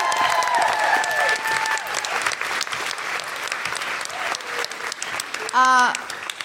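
A live show audience claps and cheers loudly and steadily for the show's producer, with high whoops and whistles rising above the applause and a sharp shout near the end.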